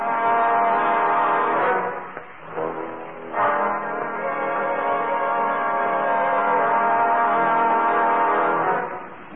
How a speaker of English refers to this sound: You're crazy. I tell you it was the hornet. And I say it was a regular car with a regular horn.